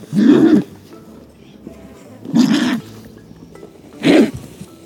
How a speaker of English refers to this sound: If you guessed this one was the condor, you were bang on, because this call belongs to the comeback kid of California. That's right, it's a California condor.